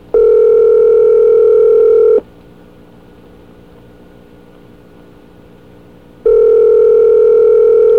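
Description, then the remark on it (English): A phone line rings back twice while calling a supervisor, each ring a steady, loud electronic tone about two seconds long separated by a four-second pause with a faint hum underneath, as if waiting for someone to pick up. “One more ring, she gets.”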